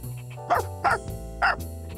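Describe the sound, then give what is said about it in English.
A dog barks three times in quick, uneven succession, each bark short and sharp, over a steady low background hum. “But there's a dog here. Go away!”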